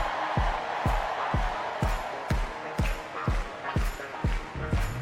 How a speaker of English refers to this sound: All right, we need everybody. Clap your hands like this. Everybody clap your hands. Clap, clap, clap, clap. Now somebody scream.